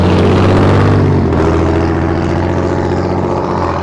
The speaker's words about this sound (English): I'm glad that guy had his glass packs on, because I wouldn't have known he's coming.